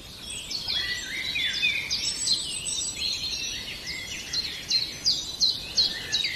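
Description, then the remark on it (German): A chiffchaff sings its repetitive two-note song, high-pitched chirps alternating in a steady, even rhythm, with other birds twittering faintly in the background and no voices. “Und der Zipzap ist ein spannender Vogel, weil der wird oft vernachlässigt, was so die Vogelsprache angeht.”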